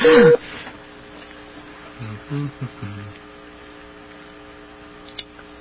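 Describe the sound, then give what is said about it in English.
A telephone line being dialed and connected: a sharp, loud clunk at the start, then a faint, steady electronic hum on the line, broken by a few soft, low murmurs. “A lot of waiting when you make phone calls.”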